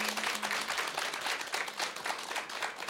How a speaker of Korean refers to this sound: 우리 큰 박수와 환호로 응원해드렸으면 좋겠습니다. 감사합니다.